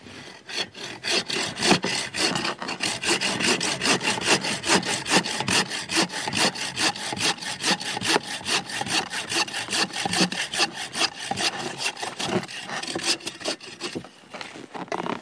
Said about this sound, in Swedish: Så där. Då har du sågat rakt av, men man ska också såga av den på längden, eller hur man säger.